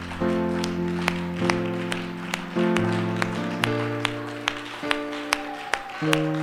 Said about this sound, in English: Can we offer a hand clap, an offering of praise?